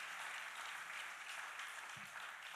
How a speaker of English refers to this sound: We need to give a big clap for our teachers. Let's give a clap to those teachers.